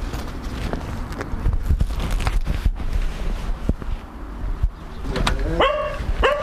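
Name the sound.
dog barking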